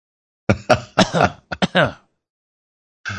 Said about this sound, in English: and a whole bunch of coughs from the fly spray.